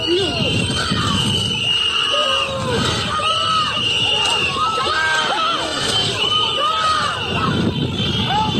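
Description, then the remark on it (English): A crowd of observers shouting and screaming at agents as the agents walk back to their vehicles, a dense, continuous roar of raised voices with sharp high yells cutting through, loud throughout. “We saw observers shouting at the agents as they walked back to their vehicles.”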